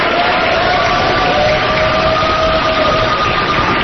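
A crowd cheers in a steady, continuous roar of mixed voices, with a couple of faint sustained whistle-like tones running through it, as couples leave a City Hall Registry Division waving their validated marriage license forms.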